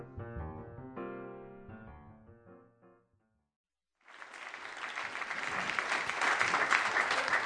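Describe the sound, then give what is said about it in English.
A short instrumental tune played live fades to a second of silence, then audience applause bursts in, a dense, steady clatter of many hands that grows slightly louder and continues to the end. “Because you didn't get the applause sign. Turn that applause sign.”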